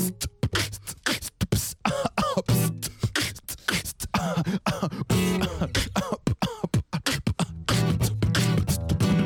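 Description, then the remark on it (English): A person beatboxes mixed with coughing: a rapid run of punchy mouth-made kicks and snares blended with throaty cough-like bursts, loud, keeping a steady groove for about nine seconds. “Now I can easily cough and throw the beatbox off. I mix the beat with the cough and the problem is solved.”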